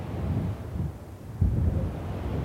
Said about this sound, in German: Der Wind ist wieder stärker geworden und es wird heute wohl nur noch 1 Fähre Richtung Festland starten.